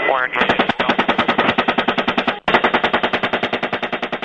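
Rapid, sustained automatic gunfire from a helicopter, fired by American soldiers at a team of journalists in Iraq in 2007, loud sharp bursts at a steady fast rhythm, pausing briefly midway before resuming, over a constant low mechanical hum.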